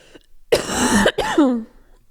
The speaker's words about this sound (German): Oh, ich muss einmal husten, wo ich... So, Entschuldigung.